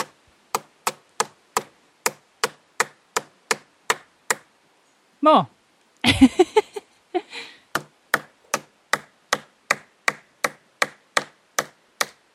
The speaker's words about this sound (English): suppose what we have done by hammering in the coin is passing our illness onto the tree.